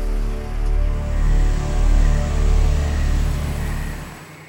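Zach's car engine starts up and revs in several rising and falling surges, then abruptly cuts off at the end. No one speaks.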